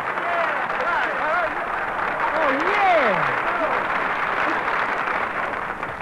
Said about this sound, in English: Well, folks, here's your little squirt of California orange juice. Applaud on me.